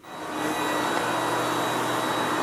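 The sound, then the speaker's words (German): A cordless, battery-powered vacuum cleaner runs steadily with a broad, airy whoosh and a faint high motor whine, ramping up in the first moment and then holding constant, fairly loud, with no voices. “Inzwischen laufen auch größere Geräte im Haushalt mit Akku, zum Beispiel Staubsauger.”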